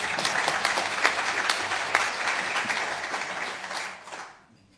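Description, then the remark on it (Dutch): A crowd of people applauds steadily with dense, overlapping claps at a fairly loud level, sustained for several seconds before tapering off and fading out near the end, at a special municipal council meeting of Beemster. “Ik wil wel even een applaus voor onze dames.”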